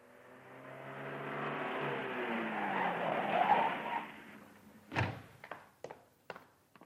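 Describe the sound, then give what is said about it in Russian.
A car engine outside a window drones steadily for a few seconds, then dies into a string of sharp, irregular coughs and pops as the motor runs out of petrol. “Внезапно за окном раздалось фырчание и кашель мотора, у которого вышел весь бензин.”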